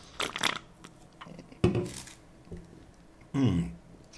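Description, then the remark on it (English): Someone takes a sip of a drink: three short, moderately loud bursts of wet slurping and swallowing noise separated by brief pauses, with no talking. “Excuse me while I have a sip.”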